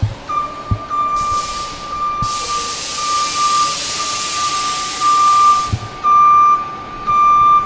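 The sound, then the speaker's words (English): Busy bus hub ambience: a long, loud hiss of air brakes sweeps through over a steady electronic tone, with idling engines rumbling underneath and a few sharp knocks. No one speaks. “At the central bus hub, I spotted some who were riding their bikes and taking the bus.”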